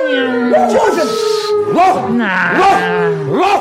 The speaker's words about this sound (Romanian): Sunt lupi, da? Lupi care urlă.